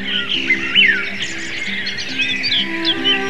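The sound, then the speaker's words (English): Many birds chirp and trill at once in a steady dawn chorus as the sun rises, quick bright calls overlapping, with a faint low hum underneath and no talking. “Even as the light quickened, the birds started chirping.”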